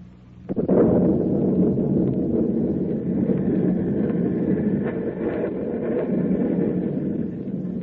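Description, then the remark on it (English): A stormy roar of wind and heavy rain over the sea swells up after a brief quiet start, then holds as a loud, dense, steady wash of noise with no voices. “Snarling silver cracks of lightning flash across the black sky. The brooding wind whips at the heavy rain.”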